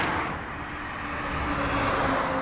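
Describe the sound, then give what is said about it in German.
Steady, dense traffic on the A9 motorway in Germany, by the St. Christophorus motorway church in Himmelkron, on a Sunday morning shortly before 11:30, roars without pause, a broad rushing hum of many vehicles with a low engine rumble underneath, swelling slightly toward the end, and no voices. “Die Kirche liegt in unmittelbarer Nähe der A9, einer der meistbefahrenen Straßen im Bundesgebiet.”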